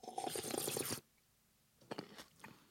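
Soft mouth noises during a minute-long silence game: about a second of crunchy, chewing-like crackle, a pause, then a few brief wet clicks and smacks. No one speaks.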